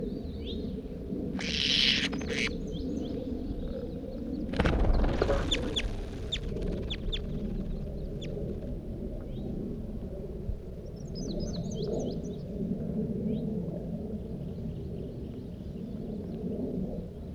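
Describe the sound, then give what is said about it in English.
A banded bird, bird 80, about 10-15 yards away on top of a little sapling, gives a few short, harsh calls in quick bursts early on, followed by fainter, high chirps later, all over a steady low rumble of background noise with no talking. “This is bird 80.”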